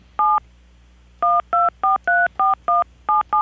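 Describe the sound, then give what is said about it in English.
Telephone keypad dialing tones as a phone number is dialed to call someone: one short beep, a brief pause, then a quick steady run of about eight more clear electronic beeps, loud, with no voices. “So let's see if we can get Diana on air. Give me one moment to play with the phones”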